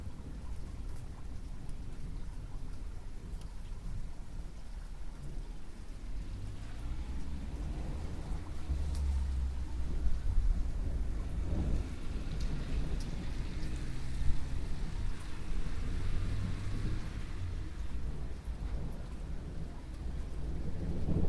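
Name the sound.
thunder rumbling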